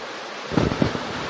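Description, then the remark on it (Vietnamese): Heavy rain pours down during a Buddhist sermon, loud enough that listeners cannot hear the talk, in a steady, dense hiss that fills the whole clip, with a few low rumbling thumps midway and no voices. “Mưa to quá giảng không, mọi người không nghe thấy.”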